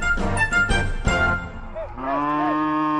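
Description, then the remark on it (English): Cattle moo loudly as they are brought in for the afternoon, one long low harmonic bellow following a few rougher calls, with no talking over them. “Just about got the cattle in for the afternoon.”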